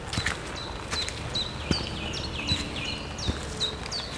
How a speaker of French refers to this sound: Il y a aussi ces chants d'oiseaux qui semblent marquer leur territoire.